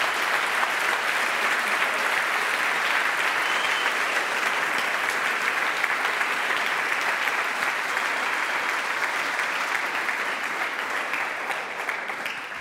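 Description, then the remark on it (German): A large audience applauds steadily for several seconds, a dense wash of clapping that stays loud throughout and only slightly thins toward the end. “Ja, erstmal Applaus.”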